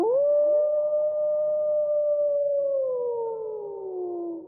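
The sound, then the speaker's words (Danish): A single wolf howls in one long, drawn-out note. It rises quickly, holds steady, then slowly slides downward and fades over a few seconds, loud and clear with no talking. “Nå, lille ulv. Lille bitte ulv.”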